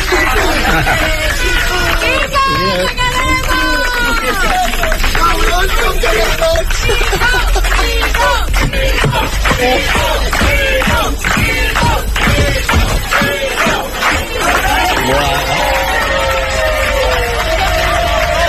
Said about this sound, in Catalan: És l'emotiu comiat d'uns veïns de les Planes de Barcelona, el conductor de l'autobús 118,